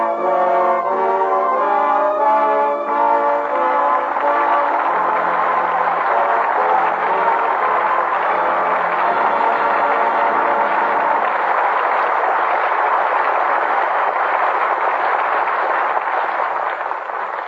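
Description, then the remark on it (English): A studio audience at a radio theater broadcast breaks into loud, sustained applause for Jimmy Stewart and Joan Blondell as a brief swell of music fades out beneath it, the dense clapping carrying on steadily to the end with no voices. “With that well-deserved applause, our thanks to Jimmy Stewart and Joan Blondell, who come to the footlights for their curtain call.”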